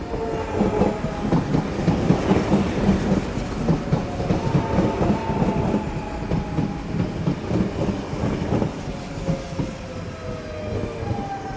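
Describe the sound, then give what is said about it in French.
A train rolls through a station with a steady, loud rumble and rhythmic clacking of wheels, while thin squealing tones slide slowly downward. No one speaks. “Le décor représente la salle d'attente d'une grande gare parisienne avec un banc, deux haut-parleurs et une grosse horloge dans le fond.”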